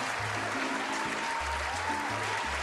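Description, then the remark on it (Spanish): A crowd applauds steadily, a thick, continuous wash of many hands clapping at an even loudness throughout, with a low, shifting bass tone humming beneath it. “Mis amigos, los aplausos para ustedes.”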